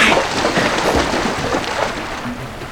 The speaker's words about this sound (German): Also, habt ihr das gehört? Ja, da hat was geklatscht. Als ob jemand ins Wasser eingestiegen ist.